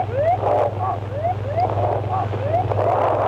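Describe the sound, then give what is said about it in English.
An aircraft cockpit alarm on Flight 232 sounds a rapid series of rising electronic chirps, roughly two per second, as the plane is about to touch down at Sioux Gateway Airport, with a steady low droning hum running beneath it throughout. “The final sounds of a cockpit alarm occurred just as the plane was about to touch down.”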